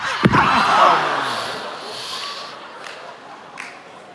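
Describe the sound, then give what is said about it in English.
A single heavy, sharp thud of a body falling from a chair and slamming onto a hard concrete floor, loud near the start, followed by a sustained murmur of a crowd reacting. “Yeah, it's concrete. It is not carpet.”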